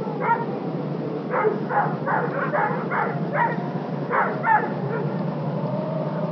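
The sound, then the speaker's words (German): Two dogs in a park bark in a quick, uneven series of about ten sharp yaps over a steady hiss of background noise, with no one speaking. “Der Schlossherr und sein Diener gehen mit zwei Hunden im Park spazieren.”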